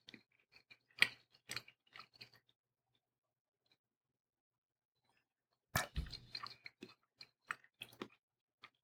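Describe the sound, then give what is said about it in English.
Chewing of a piece of steak, with wet, clicky mouth sounds in two bursts separated by a few seconds of near silence. No one speaks. “Let me finish chewing first.”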